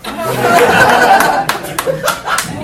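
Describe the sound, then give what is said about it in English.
A dense wash of crowd murmur and chuckling gives way to a few sharp, separate hand claps by a woman, roughly four evenly spaced slaps near the end over the lingering chatter. “She's clapping because she has a pussy to give away.”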